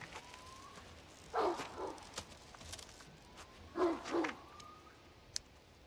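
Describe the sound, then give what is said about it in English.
A dog on a leash barks twice in quick pairs, a couple of seconds apart, in woodland over a steady outdoor hiss with a faint high click near the end. “She looks up at the sound of the barking and straightens nervously.”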